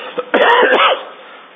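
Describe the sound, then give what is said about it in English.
A single rough throat-clearing cough, fairly loud, with a harsh rasping burst lasting under a second before fading into quiet. “Honey, do you have a cough drop?”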